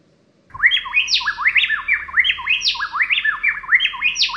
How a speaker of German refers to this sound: Noch ein Beispiel hier, sieht man es dann gleich noch besser, Frauser-Zaunkönige, die singen auch gerne Duette.